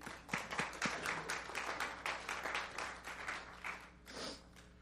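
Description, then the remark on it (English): A church audience gives the Lord a round of applause at a morning service, dense overlapping claps forming a sustained rattle that holds for several seconds before thinning out toward the end. “and give the Lord a round of applause this morning.”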